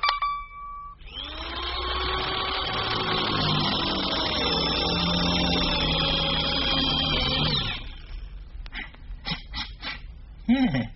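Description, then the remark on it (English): A power drill whirs loudly and steadily for several seconds with a high motor whine, then cuts off, followed by a few short, sharp bursts of noise. “Quick, hand me my drill.”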